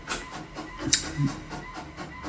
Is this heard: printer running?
yes